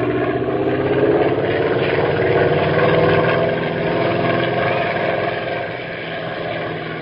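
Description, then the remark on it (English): A small airplane engine drones steadily and loudly as the plane is flown back home, with a constant buzzing hum that swells slightly and eases off toward the end. No voices are heard. “Meantime, what do you say about taking the plane back home?”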